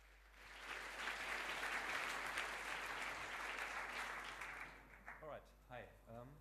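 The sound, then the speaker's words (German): Sustained audience applause for the VOC Review, a dense wash of many hands clapping for about five seconds, then fading as a single voice begins speaking over the last of it. “Applaus für die VOC Review.”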